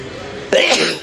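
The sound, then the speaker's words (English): A person walking past shops sneezes into open space rather than into an elbow: a single loud, explosive sneeze bursts out after a moment of faint background hiss, then trails off in a breathy rush of air. “I just thought, rather than sneeze into my elbow, that I'd sneeze into open space so that you could hear a bit of a different sound from the way in which I've been talking in.”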